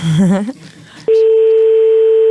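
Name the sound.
telephone dialing tones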